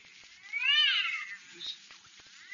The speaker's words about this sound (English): And I'm telling you that cat, you got in there violating the city ordinance. Now, if you don't make it shut up, disturbing me,